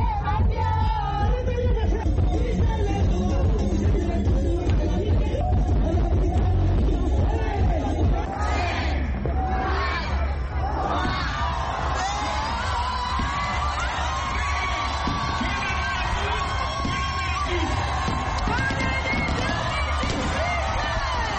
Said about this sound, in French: Enfin, 2018 est là. Il est minuit. Des cris de joie retentissent de toutes parts.